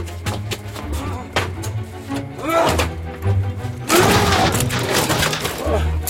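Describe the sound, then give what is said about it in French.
Soldiers force and break down a door: a run of heavy thuds and knocks builds to a loud crashing, splintering burst, with voices shouting amid the racket. “Enfoncez la porte.”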